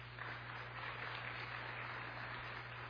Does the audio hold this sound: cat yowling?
no